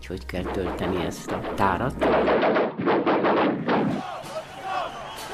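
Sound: machine gun fire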